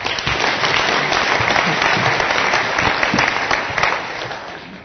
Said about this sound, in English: So please give Stephen Munchenberg a big round of applause.